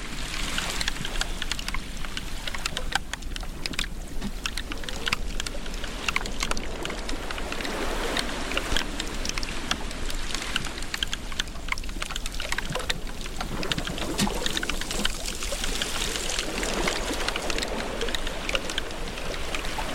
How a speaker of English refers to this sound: And hear the sound of glacial melt.